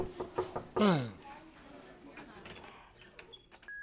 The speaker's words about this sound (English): Knock on the door